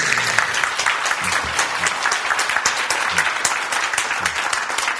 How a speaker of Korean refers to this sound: 박수.